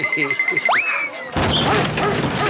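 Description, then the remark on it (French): A steady whistle bends into a rising cartoon-like swoop, then a loud crash of bowling pins scattering and clattering for over a second as a dog named Rex is thrown down a bowling lane into the pins, with no one speaking. “Je vais vérifier le proverbe « comme un chien dans un jeu de quilles »”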